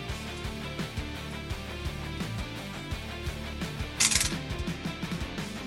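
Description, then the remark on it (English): A brief, sharp clatter of two four-sided dice tumbling across a table during a tabletop game, lasting under a second, over steady background music with no voices. “Wow, my dice want death.”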